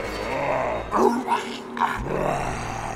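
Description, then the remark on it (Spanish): Harsh, bestial growling made by a man breaks into two or three short, loud bark-like bursts, over a steady low rumbling background. “mientras los gruñidos y ladridos de aquel hombre se acercaban amenazándome.”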